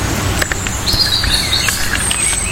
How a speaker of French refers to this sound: Là, on a les deux. On a le rouge-gorge au-dessus de nous et le merle un petit peu plus loin. Il va y en avoir un autre. Ces deux oiseaux qui sont bien présents en Normandie.